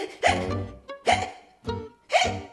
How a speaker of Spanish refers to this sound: ¡Ay! ¡Ya me agarró el hipo!